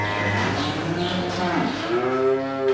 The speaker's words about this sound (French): Alors suis-moi, parce que ma copine, c'est la vache Montbéliarde. Tout ça pour une vache? C'est bien plus qu'un sympa animal.